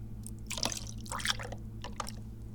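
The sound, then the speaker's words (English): Tea pours from a large, full jug in short, splashy bursts with bright dripping and trickling sounds, fairly quiet over a steady low hum, no one speaking. “And as for right now, we just take the other giant jug of tea out, which is full. And can I get the top off? There we go. So we got tea. Let's pour.”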